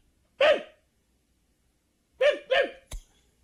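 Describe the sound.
In a movie theater, a girl imitates a dog barking: one sharp, throaty woof, a pause, then two quick woofs in a row, followed by a brief click. Loud, no talking.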